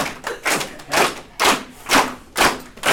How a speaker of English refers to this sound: So this is the part of the show where you clap, okay? Clap.